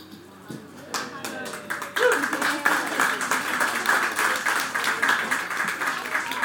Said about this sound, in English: Thank you for the clapping action. You just put smile on Tiki Maynard face.